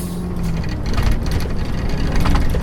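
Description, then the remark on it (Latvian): Steady mechanical rumble and whirring inside a moving city trolleybus in Riga, Latvia, around 6 in the evening, with low drone and clattering, ratchety noises throughout, fairly loud and continuous, no voices. “Iekāpjot salonā, ielas troksni nomaina tehnikas skaņas, kas par automātisko nākamās pieturas nosaukšanu ļauj tikai nojaust.”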